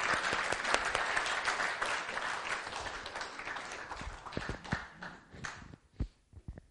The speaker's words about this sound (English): Can we clap for ourselves? Thank you so much.